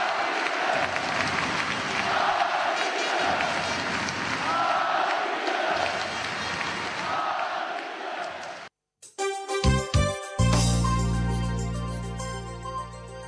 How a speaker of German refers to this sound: Deshalb wurden sie trotz aller Enttäuschungen von ihrem Mega-Super-Publikum bei der Übergabe der Silbermedaille auch zu Recht mit stehenden Ovationen gefeiert.